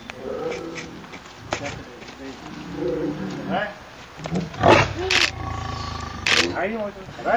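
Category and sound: animal, lioness roaring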